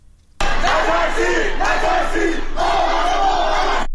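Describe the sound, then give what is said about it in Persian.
A large crowd gathered in residential areas of the city of Qom on Wednesday evening chants protest slogans in unison, 'Don't be afraid, don't be afraid, we are all together', loud and sustained, with rhythmic rising and falling phrases repeating over a few seconds after an abrupt start. “در شهر قم نیز شامگاه چهارشنبه افراد متعددی در محوطه‌های مسکونی شهر تجمع کرده و شعار نترسید نترسید ما همه با هم هستیم سر می‌دهند.”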